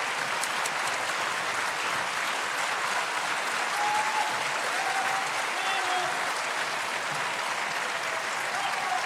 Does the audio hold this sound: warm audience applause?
yes